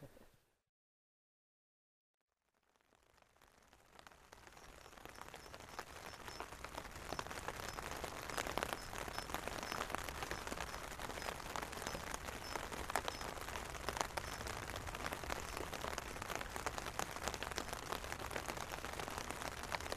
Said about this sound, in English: It's morning, and we awoke to the sound of rain falling on the roofs of our tents, which is quite a nice sound